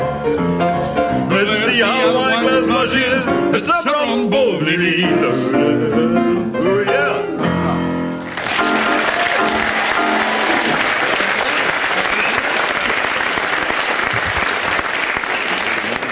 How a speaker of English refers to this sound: Well, according to the audience applause, you have a slight lead over Tim and Bill on that one.